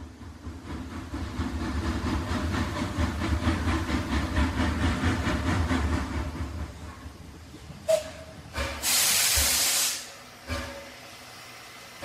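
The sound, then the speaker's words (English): The steam train carrying the Manchester United team back from the cup final chugs along with a rumbling, rhythmic beat that slows and fades, then several loud bursts of hissing steam release, one long sustained hiss among them, as it stops short at Wilmslow. “United's train stopped short, the players disembarked at Wilmslow, and they made their way to Gibson's home in leafy Hale Barnes.”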